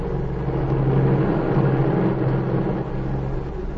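A small airplane engine drones steadily in flight over the border, a continuous low, buzzing hum with a faint tonal pulse and even loudness throughout, with no voices.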